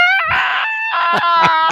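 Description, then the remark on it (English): A person screams loudly in a high, strained voice in a video being played, one long sustained cry followed by several sharp, rising bursts, filling the whole moment. “I started screaming at the end.”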